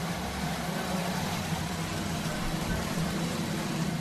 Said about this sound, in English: That is a sanctioned pump drawing water from a borehole into three 5,000-liter tanks at a new community project in Kibera